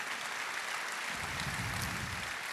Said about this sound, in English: You can applaud for that as well if you want.